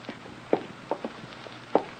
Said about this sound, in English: What is it, my dear? Why, I thought I heard footsteps in the hall.